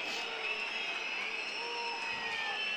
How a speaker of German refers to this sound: Und warum jetzt hier so viel gepfiffen wird, ist mir unklar. Da kann ich vielleicht kurz helfen. Das liegt natürlich daran, dass man hier in Darmstadt natürlich auf Frankfurter Größen natürlich nicht ganz Nummer. So viel Bock hat.